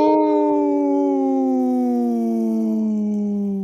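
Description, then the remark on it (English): Two voices imitate a wolf howl: one long, steady howl that holds strong and slowly slides down in pitch for nearly four seconds. “Howl! Right on. Hey, it sounded good with just two.”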